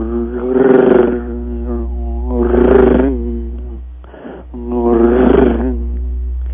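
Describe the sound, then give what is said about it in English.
A human voice imitates a cat's purr as a low, rumbling drone that swells and fades in three rhythmic waves, rising louder then easing back over a steady undertone. “But more importantly than the frequency of the kitty cat, there's also the oscillation of the purr.”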